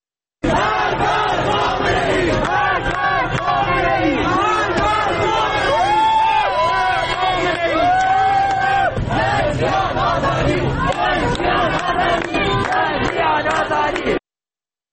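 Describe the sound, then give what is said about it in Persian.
A large crowd of protesters in Ilam chants slogans of 'Death to Khamenei' in unison, many voices shouting together loudly and continuously with rhythmic rises and falls, some individual shouts standing out over the mass of voices, in a street blocked by lit fires. “در ایلام با شعارهای مرگ بر خامنه‌ای خیابون رو با افروختن آتش بستن و شعار میدن.”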